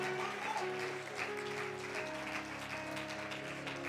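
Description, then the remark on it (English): A crowd claps their hands unto the Lord, the dense patter of many hands blending over sustained musical tones, with no one speaking. “Somebody clap your hands unto the Lord tonight.”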